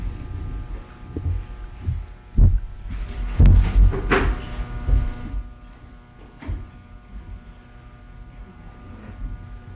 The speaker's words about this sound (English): Just heard the door slam.